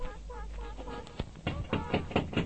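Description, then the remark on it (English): A run of about six hard bangs on a window, loud and slightly uneven in rhythm, following a second of voice-like tonal sound with no clear words. “That was me banging on the window to get the echo rolling.”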